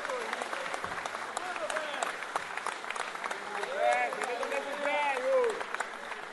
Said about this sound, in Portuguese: levanta aí, receba uma salva de palmas do povo da vela. O senhor fez aniversário de terça-feira.